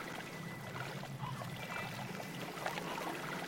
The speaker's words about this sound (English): I gotta admit, these water noises are kind of cool.